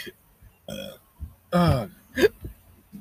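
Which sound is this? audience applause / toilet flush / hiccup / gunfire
hiccup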